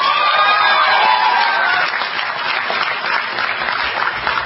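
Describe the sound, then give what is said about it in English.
A crowd at an evening conservative political speech cheers loudly, with shouts and whoops rising over steady applause before settling into sustained clapping and noise. “There's probably another person who maybe is listening to your cheers here tonight also.”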